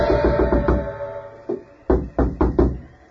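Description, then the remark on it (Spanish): Heavy pounding on a wooden door by someone demanding that it be opened: a quick burst of loud thumps, a short pause, then several more forceful, evenly spaced blows, resonant with no voices. “Tendrás que abrirle, padre, si no echará la puerta abajo.”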